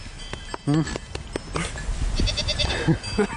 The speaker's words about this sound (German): Dort oben auf dem 200 Jahre alten Bauernhof mit herrlichem Blick ins Tal hört man die Tiere stetig meckern und schnauben